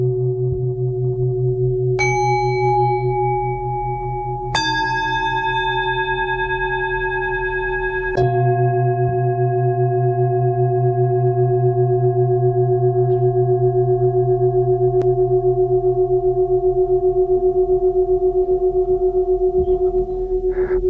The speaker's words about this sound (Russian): Сходный инструмент недавно у меня появился. Это чаши, так называемые поющие чаши. Чаши заставляют себя слушать.